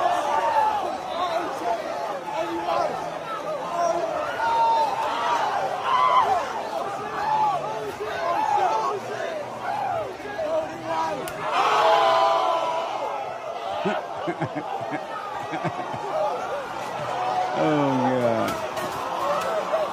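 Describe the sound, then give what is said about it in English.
A rowdy crowd of New York Knicks basketball fans, taken on by a Spurs fan, shouts and chatters over one another in a dense, continuous babble, with louder yells and whoops rising out of the noise. “One of the Spurs fans decided to take on the rowdy crowd of New York Knicks fan.”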